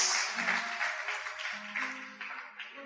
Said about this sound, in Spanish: Aleluya, dele aplauso al Señor. Gracias.